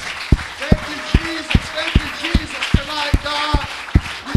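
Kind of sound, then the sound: crowd, audience hand clapping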